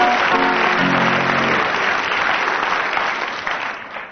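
A crowd applauds steadily for about four seconds, loud dense clapping that tapers slightly at the end, with a faint tonal hum in the first second and a half and no voices.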